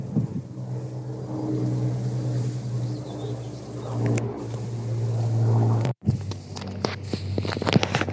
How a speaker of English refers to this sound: Now we've got a little airplane going overhead. Again, from Goodwood, you can do kind of ride in, you know, there's little, I don't know if they're called biplanes, small planes anyway.